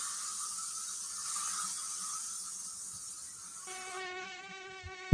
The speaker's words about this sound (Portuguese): Olha o mosquito, Thiago. Engraçado que o mosquito fica embaixo da mesa.